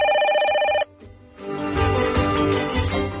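telephone bell ringing

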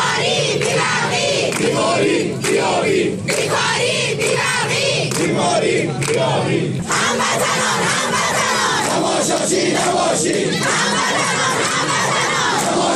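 street protest crowd chanting

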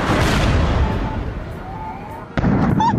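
explosions

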